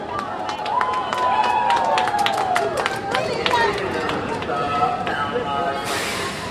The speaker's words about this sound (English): An eager crowd awaited the train as it pulled into Grand Central. There we go. New York Yankees.